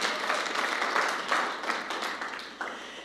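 A crowd applauds with steady, dense clapping that swells slightly and then tapers, a bright rattling wash of many hands lasting a few seconds with no voices on top.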